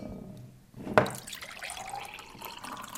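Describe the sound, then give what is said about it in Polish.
Water is poured from a raised kettle into a mug from height: after a short quiet moment, a steady splashing stream begins with a sharp onset and continues without pause. No one speaks. “Mój mąż ma nawyk podnoszenia czajnika i nalewania wody do kubka z góry, bo tak właśnie w krajach arabskich się nalewało herbatę.”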